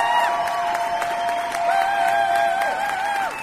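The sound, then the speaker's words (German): A crowd at a gathering against the AfD applauds the organizers steadily for a few seconds, a dense wash of clapping with sustained, slightly wavering whistle-like tones riding on top, fading at the end. “Es schaut großartig aus, toll, dass ihr alle hier seid, aber vor allem vielleicht mal ein Applaus an die, die das Ganze hier organisiert haben.”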